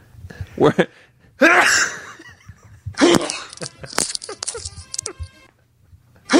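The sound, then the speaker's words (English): Two loud, sharp sneezes right up against the microphone, about a second and a half apart, with brief breathy vocal noises and murmuring around them. “It's like you did it right in the microphone.”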